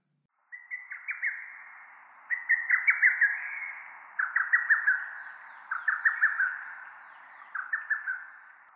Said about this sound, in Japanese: イカルです。